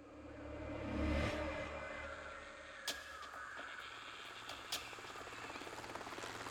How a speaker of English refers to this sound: The mission began as the helicopter landed gently in the grass.